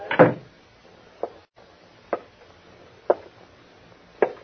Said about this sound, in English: You close that door and come back here. Close it like that.